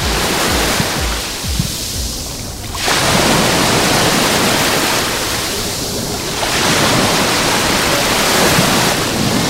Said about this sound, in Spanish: Pues acercando el micrófono al rompeolas. El viento de poniente ya casi que no nos está acompañando, hay una ligera brisa, el mar está más o menos en calma, a diferencia de los últimos días, y el rompeolas, el rebalaje, tiene este sonido maravilloso.